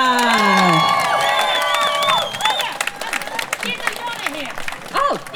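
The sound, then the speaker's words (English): An audience breaks into a round of applause and cheering, with loud whoops and shouted voices over steady clapping that fades slightly after a couple of seconds but keeps going. “Can I please get a round of applause”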